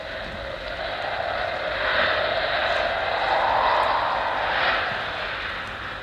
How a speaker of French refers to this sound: Oh, il y a beaucoup de vent. Écoutez-le chanter.